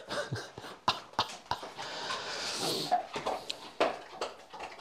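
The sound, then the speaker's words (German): A dog eats its food hungrily, with irregular crunching clicks and clattering bursts over steady chewing and snuffling noises, and no one speaking. “Uiuiui. Da war einer Hunger.”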